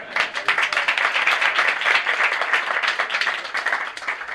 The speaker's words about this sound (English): A special round of applause for our translator who did so good his first time.